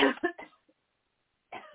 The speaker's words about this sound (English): Deep breath and cough from your gut.